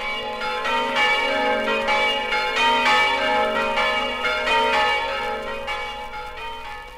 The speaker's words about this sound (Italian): Dallo snello e elegante campanile alto 70 metri, la campana del Duomo di Buia sgrana i suoi festosi rintocchi per salutare gli emigrati friulani. Il suono lambisce le linee maestose della chiesa madre.